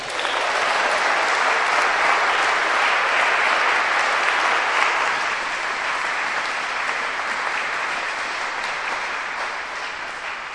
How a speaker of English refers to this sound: We're done. We cheered for you.